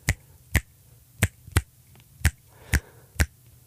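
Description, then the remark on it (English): Seven crisp hand claps ring out alone in an uneven, syncopated clave rhythm, each one a sharp, bright smack with short pauses of varying length between them. “Listen to any hip-hop song, any rock song, you're going to hear that clave beat. Would you clap it?”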